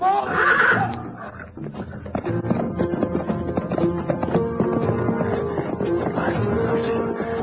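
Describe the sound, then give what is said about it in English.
A horse whinnies shrilly in panic near the start as a lion attacks it, followed by a dense, agitated stretch of layered noise and harmonic cries that continues steadily to the end. “Get the horse away. They're after him.”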